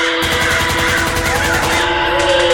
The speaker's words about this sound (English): And then guns. Sounds like a war zone.